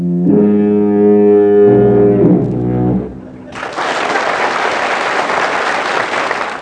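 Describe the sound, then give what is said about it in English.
Two long, deep foghorn blasts, played by a performing act in a variety show contest, blare one after the other, loud, before a burst of enthusiastic applause takes over and carries on to the end. “last week's winners, the Whopping Foghorns, who sounded like this.”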